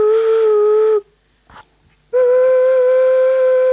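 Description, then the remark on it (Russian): An ancient clay flute of a kind heard in the 5th–6th centuries, with water-filled tuning chambers at the bottom and tuned to the cardinal directions, sounds two long, steady, loud whistling notes at the same mid pitch, breathy and rich in overtones, separated by a short pause with a faint soft noise. “И вот видите выходы, это флейты. Они имеют вот внизу камеры настроечные, вот сюда доливалась вода, поскольку они очень точно интонированы, по частям света.”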